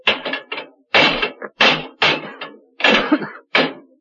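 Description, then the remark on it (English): Heavy, clanging blows strike locked brass doors in the base of a monument again and again in irregular bursts, with scraping between hits, loud as levers pry and bang against them to break them down. “Those are brass doors in the base and they're locked.”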